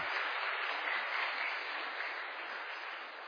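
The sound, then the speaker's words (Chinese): A large audience at a Christian church service claps steadily together as applause offered to Jesus, a dense, even roar of applause that holds at a constant level for a few seconds without any voices standing out. “哈利路亚，用掌声献给耶稣。”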